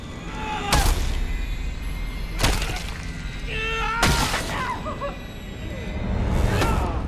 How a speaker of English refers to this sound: Napoleon pounds his skull to a pulp with the rock